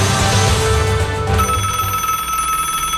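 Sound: telephone bell ringing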